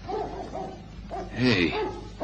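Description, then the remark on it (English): A hound, heard all morning, barks somewhere off in the distance: several yelping, slightly whiny barks in an uneven series, with one louder, fuller bark near the middle over a faint background hum. “Hey, you hear that? Dog somewhere. I've been hearing it all morning.”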